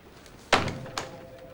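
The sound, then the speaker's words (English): A telephone handset is slammed down hard by a woman in one sharp clatter, followed a moment later by a softer knock as it settles. No one speaks. “Marta slams down her phone and then notices Washburn and Bell are missing.”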